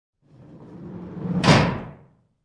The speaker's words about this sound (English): Han emerged from the portable refresher, slamming the door behind him